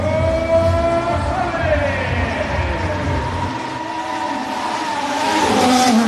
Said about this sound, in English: The roadshow of bringing the top cars and some of its drivers into the centre of Barcelona was organised for the first time ever. And it proved to be an instant hit, as more than 40,000 people lined up to wave on their heroes.